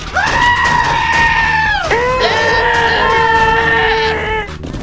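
A loud goat scream rings out in two long, wavering human-like wails, the first sliding down in pitch before a second cry follows and fades out abruptly.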